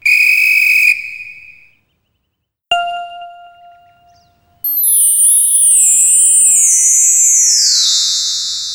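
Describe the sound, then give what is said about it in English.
A shrill, steady whistle blast lasting about a second, then a bright ding that rings out and fades, followed by a long, high, shimmering tone sliding gradually downward. No one speaks. “And I've got a whistle. It's in the rucksack.”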